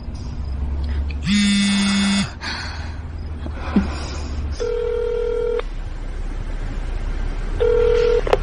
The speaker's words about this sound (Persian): آه، شماره گرفتی؟